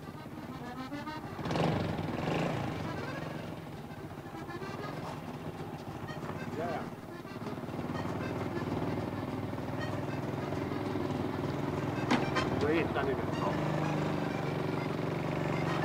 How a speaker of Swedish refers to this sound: Mopeden blev det sista motordrivna åkdonet prins Bertil använde själv.